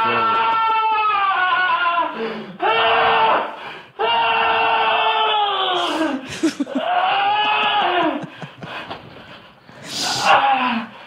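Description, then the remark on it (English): A person screams loudly and repeatedly, long strained wavering cries broken by sharp breathy gasps, with no other sounds around them. “Don't you wish that every time he came, he had to scream like that?”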